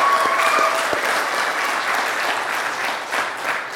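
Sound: audience applauding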